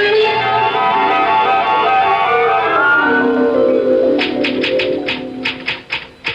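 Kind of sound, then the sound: household object, typewriter typing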